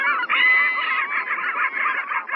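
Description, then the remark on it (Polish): Loud, harsh calls of medium-sized Caspian gulls carry on without a break, a nasal, honking chorus with rapid, uneven pulses and no voices. “Niejednokrotnie festiwal potrafi zaskoczyć swoich widzów i nie inaczej zachowują się mewy białogłowe.”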